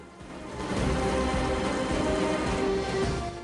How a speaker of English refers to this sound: Rain is pelting down. The vehicles are wreathed in gray mist, their headlights on full.